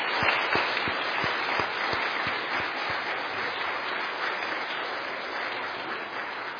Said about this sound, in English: Now, I think, folks, we could maybe give our children a wee round of applause.